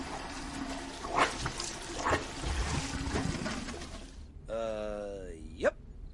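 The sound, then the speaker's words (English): Water pours and trickles steadily for about four seconds, with a few louder splashes, then stops, as water spreads everywhere in a home and moves into the living room; a short high, whining voiced sound follows. “So now the water is sort of everywhere and it's moving into the living room.”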